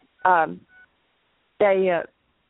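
Two short, buzzy electronic beeps come through a phone line from a call participant's end. Each lasts about half a second, and they are separated by a pause of just over a second, with nothing else around them.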